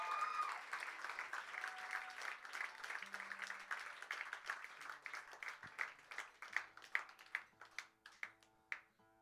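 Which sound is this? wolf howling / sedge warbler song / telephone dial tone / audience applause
audience applause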